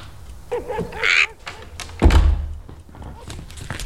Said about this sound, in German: Sie sollen die Tür schließen. Also gut.